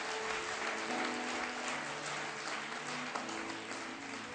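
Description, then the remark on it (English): An audience claps steadily in praise of the Lord, a dense, sustained wash of many hands at full volume, with faint tonal hums underneath. “Right there, we just want to give Him clap praise.”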